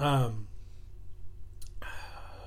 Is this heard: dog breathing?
yes